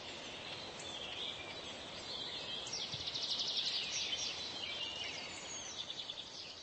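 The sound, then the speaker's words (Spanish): Birds sing in spring in a soft, continuous outdoor chorus, with overlapping high chirps and trills that swell slightly midway. No one speaks. “El cantar de las aves, Spivani Ptachku, testimonia la llegada de la primavera, Yaro, a Europa.”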